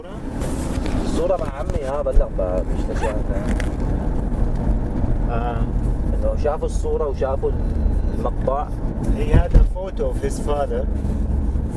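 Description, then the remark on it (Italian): Steady low road and engine rumble from inside a car driving from the village of Oteiba, Syria, into the surrounding countryside, constant throughout, with people talking over it. “Nel villaggio di Oteiba è salito in macchina con noi …”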